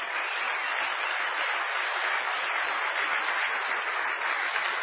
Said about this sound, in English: Thank you for that very scattered, however sincere, round of applause. I feel it right here in my bones.